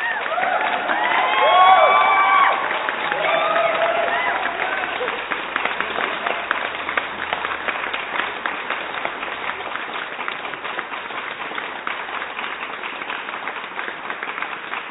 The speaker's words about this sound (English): We're going to clap you on the way out. Here we go. Watch. Here we go.